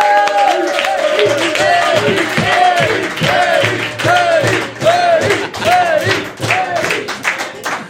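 A live audience bursts into sustained applause welcoming a guest, with whoops and cheering voices rising over the dense, steady clapping, loud throughout.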